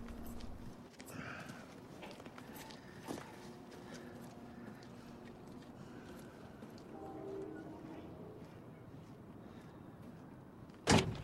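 A man walks away from an office and back towards his van: slow, heavy footsteps trudge along at an even pace, fairly quiet against a low background hum, ending with a sharp, louder knock or thump.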